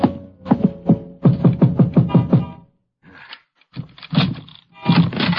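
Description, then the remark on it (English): A man knocks on the office door of a used car lot: a quick series of firm knocks, about nine or ten evenly spaced thuds, followed by a short pause and then some rustling and clattering movement. “A man in a leather windbreaker crosses the lot, slipping between the cars for sale, and knocks at the door.”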